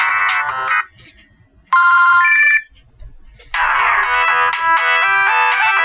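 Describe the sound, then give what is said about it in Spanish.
Three bursts of bright electronic mobile phone ringtone melodies, each a different tune of quick high-pitched synthetic notes, separated by short quiet gaps; the last one is loud and sustained. “O en el metro, y alguien delante de ti va eligiendo las melodías.”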